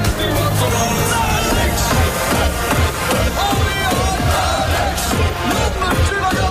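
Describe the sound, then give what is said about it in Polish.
A dense, loud crowd of Dutch football fans fills the street, following a special coach, with continuous chanting, shouts and a roar of many voices blending together without pause. “Po ulicach jeździ specjalny autokar, zanim podąża tłum kibiców.”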